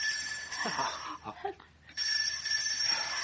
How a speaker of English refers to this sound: All right, you don't like the bell. I'll give you something better to listen to.